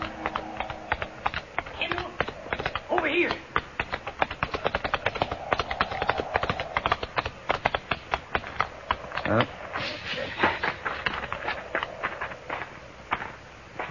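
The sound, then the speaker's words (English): Horses' hooves pound in a fast, steady galloping rhythm, fairly loud, continuing for several seconds with a dense patter of overlapping hoof strikes, as riders head toward a range of low hills. “Slim's horse easily outdistanced mine, and by the time I reached the first slopes, the cowboy had disappeared into a canyon.”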